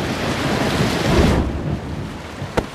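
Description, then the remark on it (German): Heavy rain hisses steadily through a thunderstorm, with a deep rolling rumble of thunder that fades midway and a sharp crack just before the end. “Seit Tagen gab es heftigen Regen und Gewitter.”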